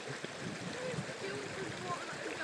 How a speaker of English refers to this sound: I'm just crossing the river.